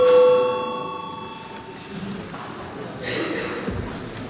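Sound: parliament chamber bell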